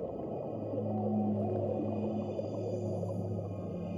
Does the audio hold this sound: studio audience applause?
no